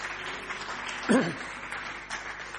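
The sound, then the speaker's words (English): An audience applauds steadily for a few seconds, a dense wash of clapping at moderate volume, with a brief vocal cheer rising out of it partway through, applauding a marriage restored in answer to prayer. “That's another one worth a round of applause.”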